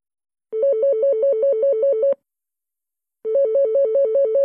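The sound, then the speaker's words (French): A telephone rings twice, each ring a rapid warbling electronic trill lasting under two seconds, separated by a short pause, with no voices. It is a call to the Annecy youth hostel to make a reservation. “Je téléphone pour une réservation.”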